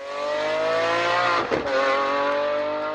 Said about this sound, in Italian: Sono questi i rombi d'auto, ma anche di moto, che più di altri preoccupano le autorità di diversi cantoni e città, anche per le conseguenze che i rumori eccessivi possono avere sulla salute.